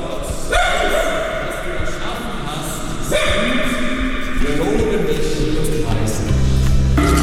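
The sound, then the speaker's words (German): Dogs bark and yip repeatedly inside a reverberant church, several loud barks mixed with whimpers, over a steady background hum of a crowd or room noise. “Es wird gesungen, gebetet und gebellt.”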